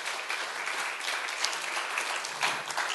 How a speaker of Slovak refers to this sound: Môžeme im zdať jeden veľký potlesk.